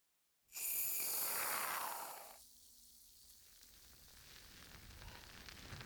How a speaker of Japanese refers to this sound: 泡のシャンプーはもう少し足していくので、お耳からも癒されるよう、シワシワの音に耳を澄ませてくださいね。